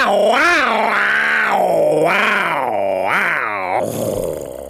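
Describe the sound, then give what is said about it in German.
A man, a father, takes a deep breath and imitates a tiger's roar: a loud, sustained, rumbling vocal growl that swells and falls in pitch several times over nearly five seconds, with no other sounds. “Er holte tief Luft und brüllte wie ein Tiger.”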